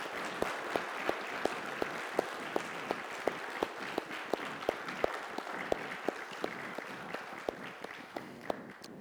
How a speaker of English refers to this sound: and by way of applaud to God that we serve as an offering of praise, let's welcome them into fellowship.